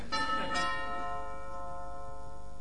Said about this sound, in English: Well, aren't you going to answer the door? Oh, is that what that bell is?